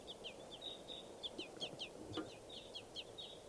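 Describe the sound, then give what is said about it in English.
Repeated high, thin chirping calls from begging baby crossbills in trees, a steady rapid series of short squeaky notes over a low, noisy background with a few lower clucks mixed in. “And they're begging babies here.”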